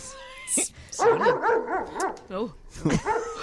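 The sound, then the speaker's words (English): A dog barks in a quick run of yelping, pitch-sliding barks drenched in echoey reverb added by an audio filter, then a short pause before a final burst, loud with no talking. “Name that filter that they put to make the dog sound with that kind of reverb.”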